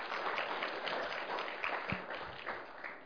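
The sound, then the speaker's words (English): A crowd applauds steadily, a dense wash of many hands clapping at once with sharp individual claps poking through, sustained at an even level throughout. “It's okay to clap, because that's a rejoicing moment.”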